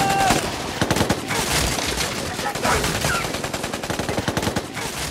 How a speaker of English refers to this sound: And a warning, sounds of gunfire will follow. It's not a surprise the film Mosul begins explosively.